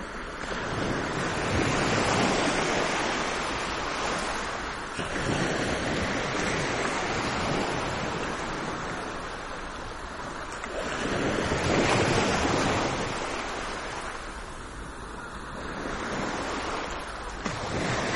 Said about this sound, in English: I am standing in front of Atlantic Ocean near Saint-Palais Seaside Resort in France. Foots in sand, and I listen closely to the endless thin rhythm of waves. This is a very simple recording, but it brings so many souvenirs.